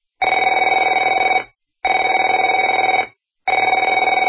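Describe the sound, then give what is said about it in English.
A telephone bell rings in three long bursts, each about a second and a half, separated by short silences. The ring is loud and steady, with a bright, buzzing metallic tone and no voices. “Afraid to answer it?”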